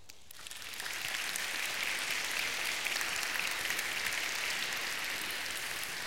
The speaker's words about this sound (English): I tell you what, while I always love applause in a sermon, whenever we talk about issues like this, I'm going to ask that you not. Just because if somebody doesn't feel like applauding, it makes them feel awkward and stand out.